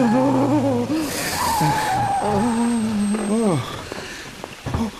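A car engine revs hard with rising and falling whines while tyres screech and skid loudly, the noise fading after a few seconds into a couple of fainter clunks.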